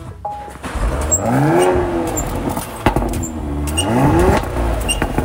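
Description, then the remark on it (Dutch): The petrol engine of a black hybrid car starts and revs twice, its pitch sweeping upward each time, with a sharp, loud pop from the exhaust pipe between the revs. No one speaks. “Een roffelende pijp krijg je een mooi knal naar buiten.”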